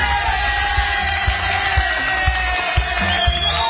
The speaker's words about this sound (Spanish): Gracias por esos aplausos que nos están allí con esa, con ese recibimiento.